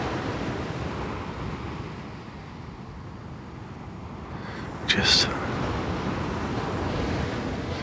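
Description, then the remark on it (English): Steady rushing roar of sea waves on an open coast, with wind noise throughout and one brief, sharper wash of surf partway through. “Featureless sea.”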